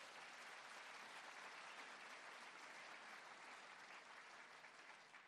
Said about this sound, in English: I'm delighted to open... applause to start the day.